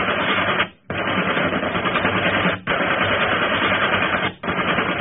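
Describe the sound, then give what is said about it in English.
Sustained rapid gunfire from a ship firing on another ship, which catches fire, roars in long, dense bursts, broken by a few brief pauses, loud and harsh throughout with no voices. “Keep firing!”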